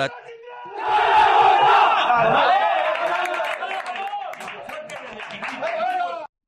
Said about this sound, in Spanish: Añadía, en mitad de los aplausos, muy fuertes, desde el principio.